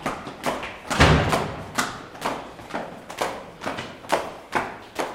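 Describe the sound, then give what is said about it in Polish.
Steady footsteps thud down a staircase in a theatre toward the basement under the stage, about two steps per second, fairly loud, with a slight hollow echo and no talking. “Ale teraz idziemy schodami.”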